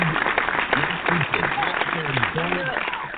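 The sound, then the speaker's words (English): A steady round of applause, a dense wash of clapping with no clear individual claps, mixed with several people talking over it throughout. “Round of applause for Egan.”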